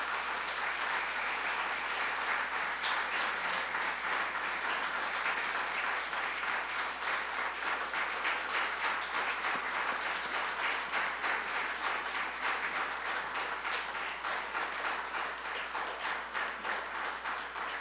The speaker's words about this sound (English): Where are you, Mom and Dad? There you are. Could we just give them a great hand of applause?